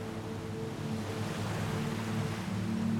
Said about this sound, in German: Du kannst das Rauschen des Meeres hören, deine Fußschritte im Sand.